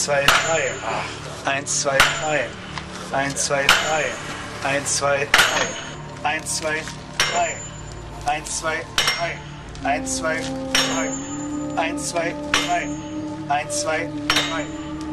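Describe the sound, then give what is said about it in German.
Hammers strike iron wedges again and again in an uneven rhythm to lift a heavy stone block in an experiment on ancient Egyptian building methods, each blow a sharp, ringing metallic clank, fairly loud, with voices talking in the background. “Ja, ich hörte beim erfolgreichen Klingen der Hämmer schon die Kritiken der Ägyptologen und anderer Materialforscher.”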